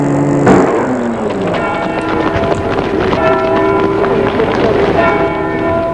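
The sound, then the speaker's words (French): A train at the railway station in Chamonix, with a sharp clank near the start followed by sustained metallic squealing and tonal ringing over a steady rumble, loud, no voices. “Enfin, ils arrivent à Chamonix, la gare, et la voiture va s'arrêter devant la gare.”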